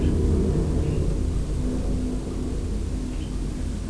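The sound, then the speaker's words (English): A white and green rubbish truck's engine rumbles, a steady low-pitched drone at a constant level throughout with no voices, as the truck collects bin bags. “He'll just drive a little bit further along, pick up some more bags.”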